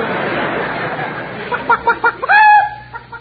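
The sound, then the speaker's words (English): A hen named Casper clucks in a quick series of short, sharp pulses that end in a louder, drawn-out squawk, over a soft, noisy background. “Listen to that cluck.”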